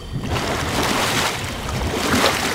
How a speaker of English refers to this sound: Here at the water treatment plant in Kansas City, I'm standing over the basin where lime is added to the water to improve taste and odor. The water looks brown and foamy.